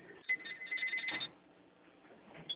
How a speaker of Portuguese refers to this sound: E o outro telefone tá tocando.